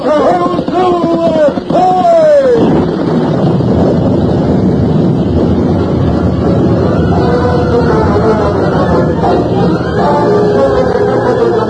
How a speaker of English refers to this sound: Storm driving them on, the little band raced south for the rim rock, but always behind them, closer and closer, came the stampeding herd. The thunder in the sky was echoed by thunder from the plain